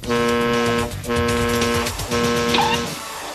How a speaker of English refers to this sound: He'll create a fixed beacon with a honking horn and listen through a traffic cone connected to a garden hose. As their vehicle moves, he'll try to pinpoint the horn's position and work out in which direction they're traveling.